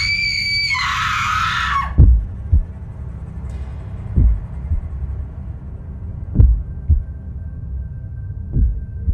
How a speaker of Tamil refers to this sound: அப்போது அவங்களோட அலறல் சத்தம் கேட்டதும் உடனே அந்த பணக்காரர் அதிர்ந்து போய் தூக்கத்திலிருந்து கண்மொழிச்சு அந்த குரலை உன்னிப்பாக கவனிக்கிறாரு. அப்போதான் அவருக்கு தெரிய வருது அது அவரோட மனைவியோட அலறல் சத்தம்னு.